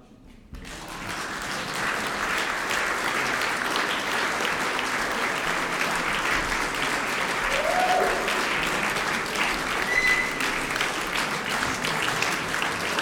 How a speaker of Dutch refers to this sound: Ja, ik ga u toch even onderbreken. Want anders zou dit applaus ongeveer 8 minuten gaan duren voordat ze allemaal binnen zijn. En u moet het applaus natuurlijk even... Nee. U moet het applaus even opsparen tot ze echt wat gepresteerd hebben.